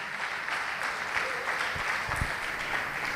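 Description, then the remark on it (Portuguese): Steady audience applause fills the whole stretch, a dense, even wash of many hands clapping at a constant moderate loudness, with occasional low thumps underneath and no clear speech; the audience is applauding the name of Jesus. “Vamos aplaudir o nome de Jesus e se coloque de pé no seu lugar.”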